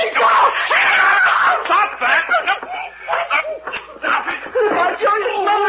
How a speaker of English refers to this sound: I'm just trying to stop her yelling.